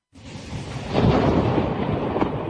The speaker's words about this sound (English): First came the storms, sweeping across the south and west of England overnight, bringing 29,000 lightning strikes, according to the Met Office.